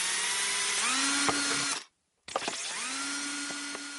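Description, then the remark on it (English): A power drill whirs steadily, its pitch rising as it spins up, stops briefly for a moment of silence, then starts again and runs continuously, with occasional clicks as it bites into plastic, drilling holes in a plastic lemonade bottle. “So here we go with the first hole.”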